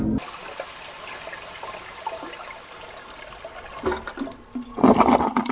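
Water rushes and flows steadily, a continuous broad hiss that swells into a louder, gurgling surge near the end. No one speaks.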